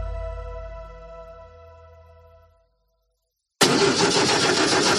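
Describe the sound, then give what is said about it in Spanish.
A car engine hums and slowly winds down to silence, then after a brief pause the loud, harsh, rattling engine of a poorly maintained car roars in and runs steadily to the end. “Así suena el motor de un coche mal cuidado.”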